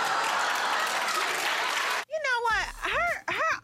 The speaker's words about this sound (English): Is there a sign in the audience that says applause that gives them the cue? I don't think so, because when they clap, they look like they mean it.